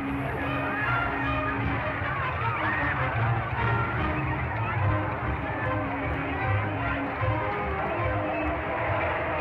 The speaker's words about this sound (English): Everybody's yelling and cheering and, hey, old chap, it's over.